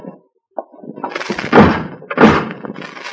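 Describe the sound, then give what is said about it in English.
A car door shuts with a heavy, muffled thunk as someone gets into the single car in a parking lot near the outer breakwater of a harbor, then a second solid thud follows about a second later, with a faint click and some rustling movement before them. “In the single car on the lot sat Janice Lake. Go on, get in, brother.”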